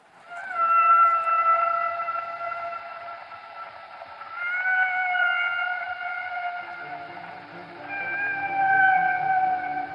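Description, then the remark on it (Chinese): Humpback whale song: three long, sustained tonal wails that slide and bend in pitch, fairly loud, with a lower, rough pulsing layer joining in during the second half. No one speaks. “You have humpback whales.”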